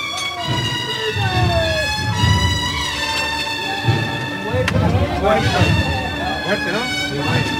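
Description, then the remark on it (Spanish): One sharp, clean hammer knock rings out midway as a signal to the float bearers, cutting through a steady murmur of crowd voices and sustained, droning musical tones. “Suena el martillo.”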